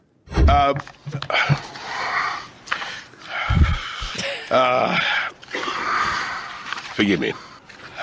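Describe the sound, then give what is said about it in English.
Loud heavy breathing into a microphone: a series of harsh, rasping inhales and exhales with gasps and snorts for several seconds, a person imitating the laboured breathing of a man at a lectern. “It's the breathing, the heavy breathing into the microphone, unfit, isn't it?”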